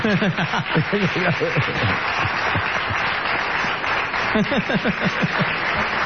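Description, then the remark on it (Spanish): Steady, dense applause from an audience celebrating a birthday fills the whole stretch, loud, with voices rising over the clapping near the start and again toward the end. “Vamos a poner mal a Ale Dolina, que cumple años. Lo pueden aplaudir y cantarle.”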